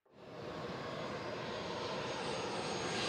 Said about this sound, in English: The wheels of the impressive private jet touched down in snowy Moscow.